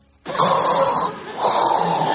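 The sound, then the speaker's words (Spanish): Heavy, rasping breathing, as if inside a space helmet: one long hissing breath, a short dip, then another. Loud, with no talking over it. “Me estoy escuchando la respiración y digo, macho, le pasco al Darth Vader.”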